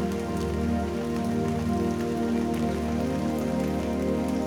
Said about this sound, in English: Everything outside is being washed and cleansed by the rain. The redemptive power of rain to refresh and renew.